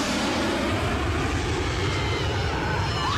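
A steady, loud roar of an airplane engine fills the whole stretch, constant, with a faint whining tone sliding near the end and no voices.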